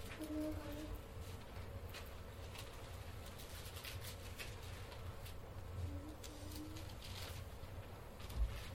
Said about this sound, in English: Always like to hear the pages turning in your Bible. It means that you brought your Bible with you.